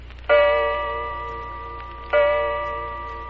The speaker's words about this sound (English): You hear the old grandfather clock in the hall strike the hour.